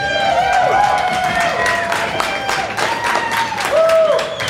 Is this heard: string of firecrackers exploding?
no